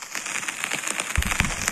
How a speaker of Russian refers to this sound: Такой дождь вот. Есть с грозой. Но вот это лучше всего иллюстрирует.